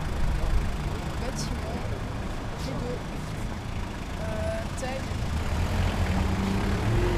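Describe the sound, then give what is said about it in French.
Steady, dense rumble of idling car engines in a traffic jam, continuous, with a few brief tonal blips rising over the low drone. “Embouteillage, fil, voiture, pollution.”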